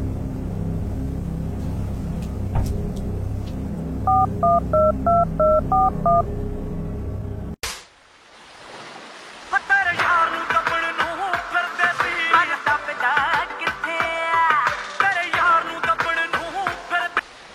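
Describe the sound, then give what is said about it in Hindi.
A phone number being dialed: about eight quick keypad beeps in a steady rhythm, a sharp click, then a melodic ringing tone plays on over a low background hum. “वो तो फोन ही चकदा पिया मेरा।”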